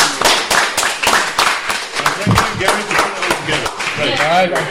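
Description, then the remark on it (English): An audience applauds the guests and everyone on the show, a dense, steady wash of many hands clapping loudly throughout, with a few voices calling out beneath it toward the end. “Let's give everyone a big round of applause.”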